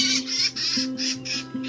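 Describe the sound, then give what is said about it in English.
A gray jay calls in a quick series of about six harsh, chattering bursts, loud, with a faint steady hum beneath and no voices. “Gray jays can be seen in northern Wisconsin forests and will even visit bird feeders.”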